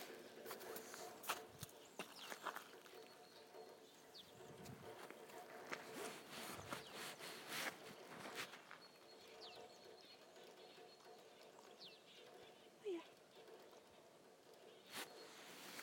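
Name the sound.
footsteps walking outdoors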